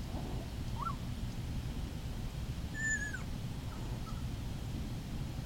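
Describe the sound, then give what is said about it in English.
A puppy makes soft, contented little squeaks: a faint chirp early on, a thin rising-and-falling whine near the middle, and one more tiny peep, all over a steady low background rumble. “And then this is what it sounds like when they're content.”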